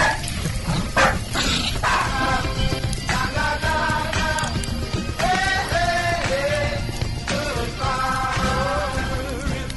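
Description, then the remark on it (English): A dog named Peanut barks and yelps goodbye in a series of drawn-out calls, loud, over a constant rushing background noise. “Say goodbye, Peanut.”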